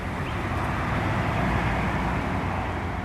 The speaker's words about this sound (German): Keine knallenden Peitschen sind mehr zu hören, keine Schreie des Schmerzes, der Willkür, des Sadismus, nicht die Hetzjagd der Hunde, nur unser Wagen, mit dem wir unterwegs sind durch eine idyllische Landschaft.